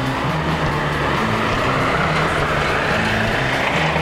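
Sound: street traffic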